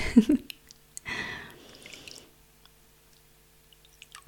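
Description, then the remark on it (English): Warm water bubbling in a bubble bath tub: a short wet burst, then a fizzy gurgle that swells for about a second and slowly fades into quiet, with no one speaking. “The bubbles.”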